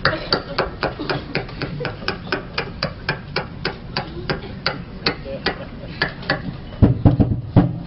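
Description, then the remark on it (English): Someone knocks on a door in a long, steady run of quick, even raps, about two dozen sharp hits at a brisk constant pace, with a louder, rougher burst near the end. “You knock on this door again, I'll punch you right in the mouth.”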